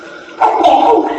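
A single sneeze bursts out abruptly after a quiet moment, a loud, breathy, noisy blast that trails off over about half a second, with no talking around it.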